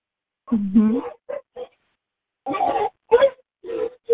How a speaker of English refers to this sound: I'm going to mute because I have this naughty dog here making noises.